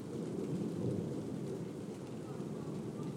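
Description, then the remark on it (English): A low, steady rumble of thunder rolls beneath a constant hiss of rainfall, soft rather than loud, with no clear cracks or peaks. “It's funny thunder, it's not really loud, but”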